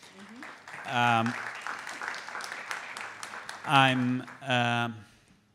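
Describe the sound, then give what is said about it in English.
Steady crowd applause for Bruce Sterling and Yasmina Tesanovic at an evening talk on art and AI, a dense patter of clapping for about five seconds, broken by three loud, pitched vocal bursts like cheers or whoops before fading out. “We can make a round of applause for them.”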